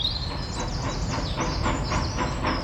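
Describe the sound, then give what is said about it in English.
A train rumbles steadily along the rails with a rhythmic clickety-clack and a thin metallic squeal above, loud, with no voices. “Let's go on the train!”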